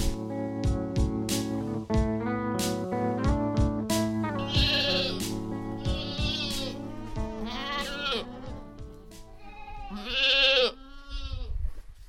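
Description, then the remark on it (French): Many goats, including young ones and very young kids of the year, bleat in a barn all around the listener, overlapping calls rising and falling continuously, some loud and wavering, with rustling and percussive knocks underneath. No one speaks. “Alors voilà, vous êtes au milieu des chèvres.”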